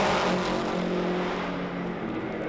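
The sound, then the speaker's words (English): A Lotus race car engine roars loudly and steadily on track as it takes the white flag, a dense mechanical drone with a droning pitch that eases off slightly toward the end, with no voices. “Now the white flag for Jim Clark. And the Lotus has taken the white flag.”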